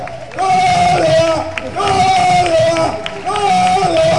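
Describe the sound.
A crowd applauds and cheers loudly and steadily, with voices rising together in three sustained swells over a dense wash of clapping.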